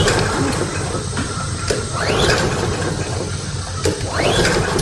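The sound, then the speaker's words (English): A small lawnmower engine is yanked by its pull cord several times. Each pull makes a rising whirring rasp that sputters briefly and dies without catching. The sound is loud, with no talking. “There's no need to pull your shoulder out of your socket. Gary is the small engine specialist, and he is your one stop for lawnmower repair and maintenance.”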